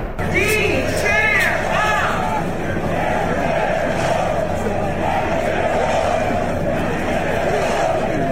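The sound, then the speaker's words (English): A large crowd at a golf event chants together outdoors, voices rising in loud rhythmic bursts early on, then settling into a dense, steady roar of massed voices and babble that continues throughout. “So they're doing a little chant, and then she shouts this.”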